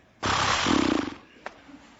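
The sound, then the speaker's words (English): A person imitates a horse's snort: a loud, breathy rush of air that breaks into a rapid lip-flapping flutter, lasting about a second, then a brief click follows. “What does a horse sound like when it snorts?”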